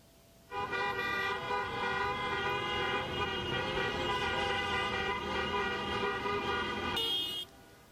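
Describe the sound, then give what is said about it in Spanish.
Many car horns blare together in a loud, unbroken chorus for about seven seconds, layered over the rumble of street traffic, then cut off abruptly, as protesters in cars demonstrate against the government's education policies in Madrid and other Spanish cities. “Miles de manifestantes salieron a las calles, a pie y también en coche, para denunciar las políticas educativas del gobierno.”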